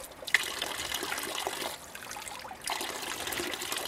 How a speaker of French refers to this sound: Et c'est à cette fontaine-là que t'as l'eau. Elle coule tout le temps.